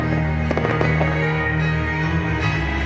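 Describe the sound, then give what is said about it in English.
Several fireworks burst in quick succession over a steady, dense background roar at a night of music and fireworks in Sterling, Virginia, ahead of the presidential inauguration, with sharp cracks and booms clustered early before settling into a continuous rumble of explosions. “President-elect Donald Trump and soon-to-be First Lady Melania Trump take in a night of music and fireworks in Sterling, Virginia, ahead of Monday's inauguration and move back into the White House.”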